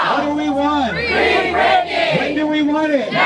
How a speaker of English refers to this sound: Got some cheering going on.